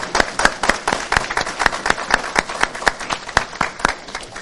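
A church audience claps in steady applause congratulating a family on the birth of their baby boy, many hands producing a dense stream of sharp, bright slaps that holds at a fairly even level throughout, with no voices heard.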